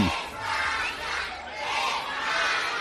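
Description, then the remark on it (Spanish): A group of kids at the gate of the Mestalla stadium loudly cheering and chanting for Luis Enrique's national team as they wait for it, their shouts rising and falling in steady rhythmic swells across a few seconds, with no separate speech. “Un grupo de chavales que estaban en la puerta de Mestalla esperando al equipo de Luis Enrique para animarnos, Expósito, de cara al partido que mañana, a partir de las 9:45, juega el equipo de nuestro país.”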